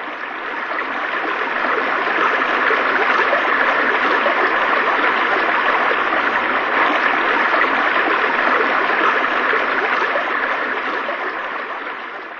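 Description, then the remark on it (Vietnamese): A continuous, dense roar of rushing river rapids, steady, swelling in at the start and easing slightly at the end, with no voices. “Mọi người biết rằng thời gian cho một kẻ bám được vào một tảng đá trơn tuột trên mặt dọc nước chảy xiết như vậy chỉ có thể tính từng phút.”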